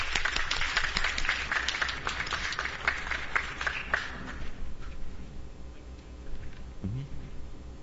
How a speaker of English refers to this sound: So we want Alamo to welcome them as they present their passion, the Gideons program of Gideons International. Let's welcome them with a hand clap this morning.